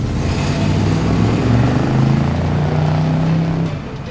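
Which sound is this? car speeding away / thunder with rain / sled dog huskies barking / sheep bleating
car speeding away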